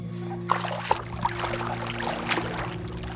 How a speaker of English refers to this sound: Diane paddles around on an old surfboard while I sit on a decrepit wooden dock with my feet in the water